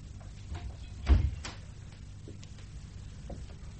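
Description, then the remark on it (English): A door swings shut with a single dull thump, followed by quiet with only a low background hum and a few faint creaks. “Don't stand in the door.”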